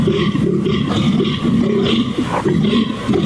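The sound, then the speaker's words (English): A European red deer stag bellows its rutting mating call, loud, in deep, rough roars that repeat in surging pulses with no other voices. “Is it a mating call? Calling the ladies. Also, he looks like a moose.”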